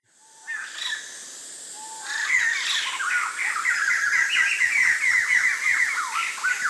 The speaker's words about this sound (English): A lot of people hear about this, they want to know, did the bird imitate you? Did he copy you?